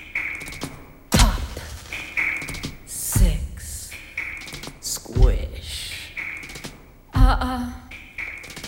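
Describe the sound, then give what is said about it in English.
A female inmate drums her fingers against metal cell bars in the Cook County Jail in a steady pattern: light taps with a louder ringing clang about every two seconds, the metal giving off a bright, resonant hum between hits. “An inmate drums her fingers against the bars.”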